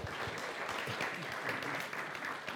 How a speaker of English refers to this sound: Give my disciples a round of applause.